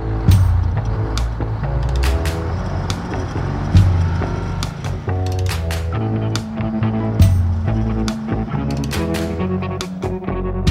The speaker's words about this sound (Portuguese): A música vem acompanhada de um videoclipe maneiro é cheia de duplo sentido e mostra que o cara é da bagaceira.